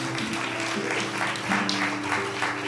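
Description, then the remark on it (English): An audience breaks into sustained applause, a dense wash of many hands clapping steadily and loudly for a few seconds, with a faint low hum underneath. “let's give these fools a big hand clap, amen.”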